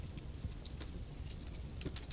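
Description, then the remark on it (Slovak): A wood fire crackles softly, with irregular small pops and snaps scattered over a steady low hiss and rumble. No voices. “Každé jedno prasknutie dreva z vás uvoľní jeden malý, malinký kúsok stresu.”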